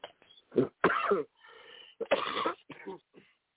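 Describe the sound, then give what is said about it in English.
Several harsh coughs come in quick, uneven bursts, separated by short raspy breaths and a throat-clearing rasp, with no talking in between. “extensive coughing right now.”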